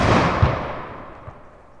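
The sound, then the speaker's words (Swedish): A loud gunshot bang from a gun fired with its hammer fully cocked booms outdoors, its echo rolling away and fading over a couple of seconds, with a few softer reflections thudding back. “Vilken smäll. Bussigt eko dessutom.”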